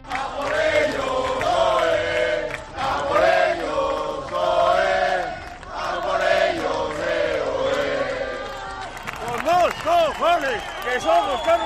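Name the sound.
football fans chanting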